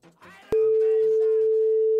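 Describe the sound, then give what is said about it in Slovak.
A telephone ringing tone sounds during a call to Bauer Media: one loud, steady electronic beep lasting about a second and a half, starting and stopping with small clicks, after a moment of faint background talk. “To je vyzvanie, nie?”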